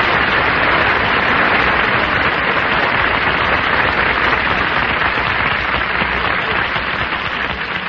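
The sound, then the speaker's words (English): Sustained audience applause for the performers of a play, a dense wash of many hands clapping at a steady, loud level for the full eight seconds, with no voices rising above it. “We share your applause with 2 fine performers, Martin Blaine as Gil and Miss Nell Harrison as Della.”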